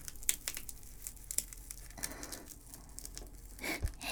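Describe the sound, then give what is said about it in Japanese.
A velcro strap on a wrist restraint is ripped open with a rough, crackling tear as the restraint is taken off, surrounded by soft rustling and handling noises, with no one talking. “反対側にマジックテープがあった。”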